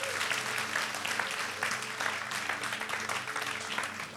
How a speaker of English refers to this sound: Would you give this man a round of applause?